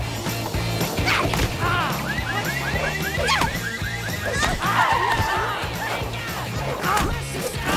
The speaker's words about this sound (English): The final orange to the head sends him crashing into a market stall.